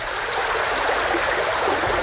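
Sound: flowing stream water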